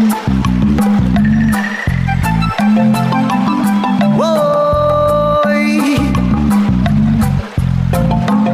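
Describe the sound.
An early-1990s Martinican hit song plays loud and full, with a steady rhythmic bass pulse, layered instruments and a gliding sung vocal line running throughout.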